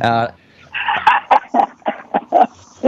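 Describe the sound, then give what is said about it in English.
A dog barks in a quick, fairly loud series of about seven or eight sharp yaps, coming close together after a brief opening voice-like sound. “his dog's barking at him because he isn't getting any airtime.”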